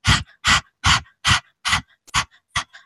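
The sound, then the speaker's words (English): A person pants like a dog with tongue stuck out as Kundalini yoga breath work, seven quick breathy huffs in a steady rhythm, fairly loud, with short gaps between each breath and no talking. “And just so that you can really understand the rhythm for this breath work, is I'd like you to stick out your tongue and just start panting like a dog.”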